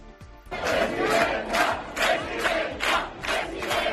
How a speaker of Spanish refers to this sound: Gritos de presidenta, presidenta, esto a las puertas del auditorio del Palacio de las Artes, donde minutos después iba a intervenir.